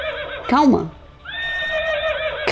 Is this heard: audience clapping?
no